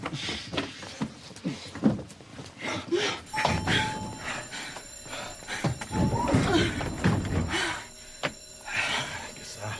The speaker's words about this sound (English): The doors close.